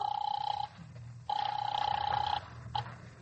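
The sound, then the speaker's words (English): A telephone rings through the line in two long bursts and a brief third blip, steady tones over a low hum, heard alone without any talking, as a call is placed through an operator. “Operator, how about my number? I'm ringing it now.”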